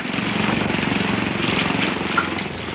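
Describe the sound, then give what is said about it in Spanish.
A heavy seaplane with giant pontoons skims the water and comes to a stop, its propeller engine droning loudly, a steady throbbing roar with a fast rhythmic pulse and a broad hiss of rushing air, continuing without a break and with no voices. “El pesado pájaro de acero roza el agua con sus pontones gigantescos, deteniéndose a poca distancia de un oscuro navío que semeja a un barco cisterna, inmóvil y anclado a corta distancia de un islote agreste.”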